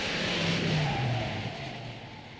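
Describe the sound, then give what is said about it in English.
A car with drum brakes brakes hard, its back wheels locking up: a steady road roar with a low engine hum that slides downward in pitch as the vehicle slows over about two seconds. No voices. “First time I braked really hard, and I could feel the back wheels lock up.”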